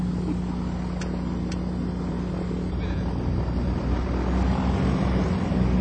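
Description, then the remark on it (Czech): An aircraft's right engine starts and runs before a flight, droning loudly and steadily, a deep, constant rumble with a low hum. It swells slightly partway through, and two brief clicks sound early on. No one speaks. “A to byl pravý motor.”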